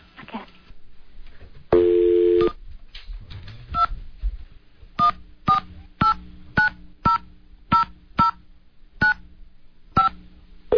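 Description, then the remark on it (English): A brief dial tone gives way to a quick series of about a dozen touch-tone beeps as a number is punched into a telephone, each tone short and clear with small pauses between. “We'll give him a call now.”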